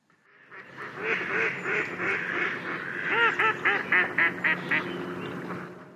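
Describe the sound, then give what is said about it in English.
Several ducks at a lake quack in a loud, overlapping chorus, building into a quick rhythmic run of repeated quacks toward the end, with no one talking. “They will have up to 12 fluffy ducklings each spring.”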